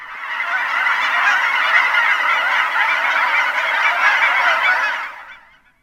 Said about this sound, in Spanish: Y en invierno me cautiva el repentino alzamiento de las alas al cielo cuando un gran grupo de gansos graznando se asustan al ver un águila calva.